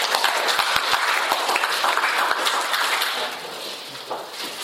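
A crowd applauds with dense, steady clapping for roughly three seconds, then the applause thins out and fades to a quieter patter. Nobody speaks over it.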